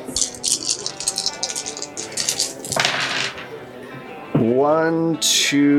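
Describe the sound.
A handful of dice rattles and clatters in quick, bright clicks for a few seconds, ending in a short scatter, then a voice starts speaking.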